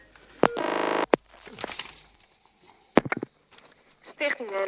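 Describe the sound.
A telephone number is dialed, with a steady electronic tone, sharp handset clicks and more buzzy tones near the end. Muffled voices can be heard faintly in between.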